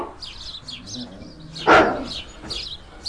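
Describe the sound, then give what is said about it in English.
A single loud, sharp dog bark rings out, standing out over a steady background of small birds chirping and twittering outdoors. “Oh, yeah, there are dogs.”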